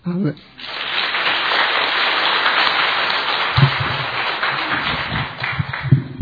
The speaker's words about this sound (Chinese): 才刚的掌声愿献给我们天上的父，愿献给我们耶稣基督，愿献给每个兄弟姊妹。